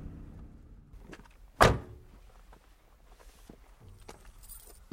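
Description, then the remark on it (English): A truck door opens with a sharp thud as a man gets out of the truck near Umani Falls, followed by a few soft footsteps heading towards some bushes and light shuffling against a faint outdoor background. “gets out of the truck and heads towards some bushes.”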